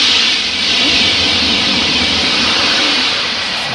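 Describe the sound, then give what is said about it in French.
A high-speed TGV train rushes past, a loud, dense roar of wind and rumbling wheels that holds steady for a few seconds with no voices. “Un train, un TGV.”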